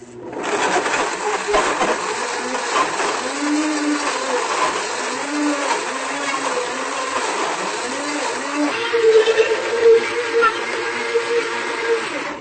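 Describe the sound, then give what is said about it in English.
A blender at a restaurant whirs steadily for about twelve seconds, blending a mixed-fruit smoothie until smooth: a loud, dense roar whose motor pitch wobbles as the smoothie churns, then rises to a higher, steadier whine near the end. “So you want to blend it until it's nice and smooth. That's why they call it a smoothie and not a chunky.”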